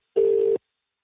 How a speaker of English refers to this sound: By ringing them. I can hear that. It's a telephone.